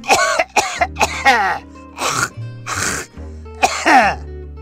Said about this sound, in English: We lay there a while longer, holding hands in the cool tropical night breeze, watching the shimmering lights of long dead stars, and pretending we weren't listening to an old man drowning in his own phlegm.